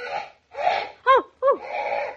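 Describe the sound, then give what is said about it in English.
A parrot named Solomon squawks in a quick series of harsh calls: raspy, noisy screeches around two sharp, rising-and-falling shrieks, ending in a longer grating squawk. No one speaks. “You silly parrot. You scared the life out of me, you dope.”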